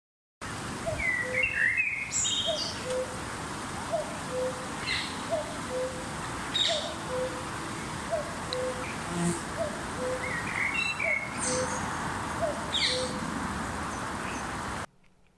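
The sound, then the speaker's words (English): A common cuckoo calls its two-note 'cuck-oo' over and over at a steady, unhurried pace at Smallford Pit in spring 2025, while other birds chirp and twitter brightly in the background. “Caroline has sent a recording in which the cuckoo speaks for itself.”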